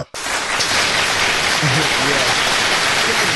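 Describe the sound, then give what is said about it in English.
A dense burst of applause kicks in abruptly and holds steady, a thick wash of many hands clapping at once for a few seconds without letting up. “Hit the applause.”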